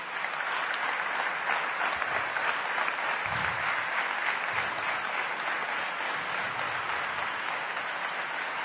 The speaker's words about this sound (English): I once again request you to give a huge applause